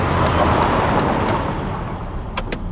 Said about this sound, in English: Truck. Truck! Holy shit, big truck! Oh my God!